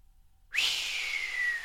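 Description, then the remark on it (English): A tanner purses his lips and draws his breath through them in a single long, breathy inward whistle, starting abruptly after a brief silence and holding steady with a slowly falling pitch, fairly loud, with no talking. “the tanner pursed his lips together, drawing his breath between them in a long, inward whistle.”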